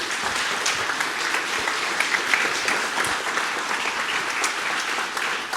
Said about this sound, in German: Gebt ihm mal eine wunderschöne Runde Applaus bitte.